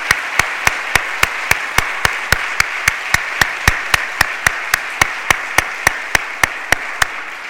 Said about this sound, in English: And let's all join and give these grade 8 graduates another round of applause of our appreciation.